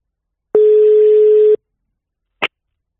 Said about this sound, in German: Da rufen wir jetzt einfach mal unseren Chefredakteur an